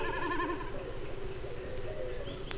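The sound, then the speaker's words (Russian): Snipe drumming high in a blue sky as the bird dives, its vibrating tail feathers making a wavering, tremulous bleat like a lamb, with pulsing harmonics that throb rapidly for about a second and fade, over a steady low rumble. “Слышите, словно барашек блеет.”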